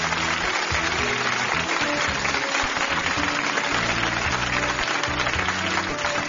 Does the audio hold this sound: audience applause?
yes